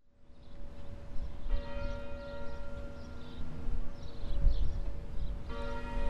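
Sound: clock tower bell ringing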